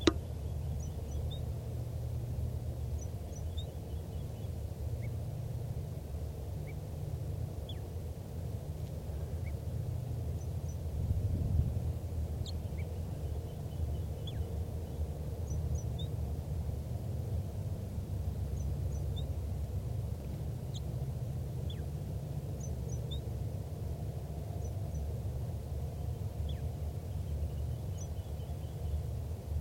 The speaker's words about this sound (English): Recording again that wild bird in soft song.